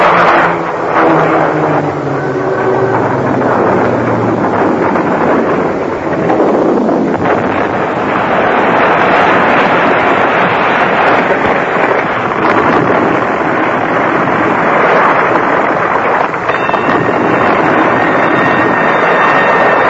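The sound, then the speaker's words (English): An airplane crashing: a loud, unbroken roar of engine and rushing wind, with a falling whine in the first few seconds, filling the whole stretch without any voices. “Look at the plane! There's something wrong! She's crashing!”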